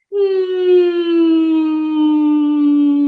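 A single steady hummed tone through the nose, held for about three seconds at a mid pitch that sinks slightly toward the end, with a buzzing, resonant quality and no talking.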